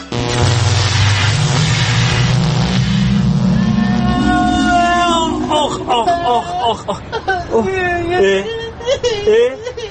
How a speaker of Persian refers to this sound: ماشین زمانشو امروز آتیش کرده، کجا میره، کجا قراره بیفته، کدوم زمان میفته.